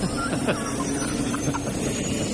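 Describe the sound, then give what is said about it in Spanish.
A loud, steady roar like a rocket engine blasting, a dense rushing noise that fills the whole clip without letting up, with faint higher whistling tones threaded through it; it is identified as a helicopter. “Este ruido parece un cohete espacial.”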